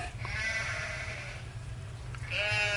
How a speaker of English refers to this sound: Now came a scruffy flock of nomad sheep, hard bleating, clogging the black river.